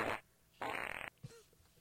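Two loud fart sound effects in quick succession in a show bumper for a segment called Fart Stories, the first short and the second a longer flapping, buzzy blast, followed by a brief soft thump and fading noise.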